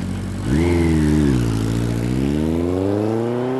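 motorcycle passing by

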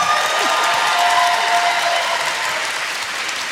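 audience applause and cheering

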